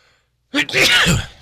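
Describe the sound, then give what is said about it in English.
A single loud sneeze from a person at a microphone bursts out after a brief silence, a sharp intake followed by an explosive, breathy blast that trails off. “Excuse me on that. I had to sneeze.”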